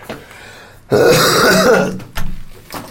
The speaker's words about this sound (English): That was not a cough for dramatic effect. That was very much a real cough. I've still hardly got any voice left.